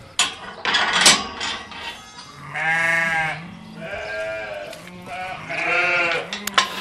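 A sheep being fattened in Wicklow bleats three times in long, wavering cries, fairly loud, after a brief burst of rough, noisy rumble at the start.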